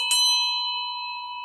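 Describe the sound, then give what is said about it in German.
A single cowbell, a wedding gift, is struck once, loud, giving a sharp metallic clang followed by a bright, steady ringing tone that lingers and fades slowly, with no voices. “Das sind wie Kirchenglocken. Und die ich jetzt zum Schluss angeschlagen habe, ist eigentlich mein schönstes Hochzeitsgeschenk.”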